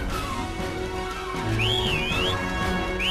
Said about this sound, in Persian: میشه سوت نزنی؟